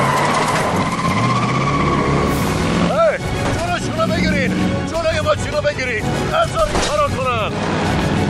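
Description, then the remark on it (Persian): Car tires screech in a series of sharp, wavering squeals over a loud, continuous engine roar as the car flees in a chase, the skids coming in quick bursts through the second half. “بگیرید جلوی ماشین رو بگیرید.”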